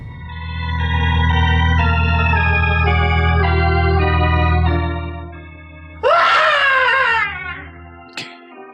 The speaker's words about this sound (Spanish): Un grito de angustia lo hace reaccionar.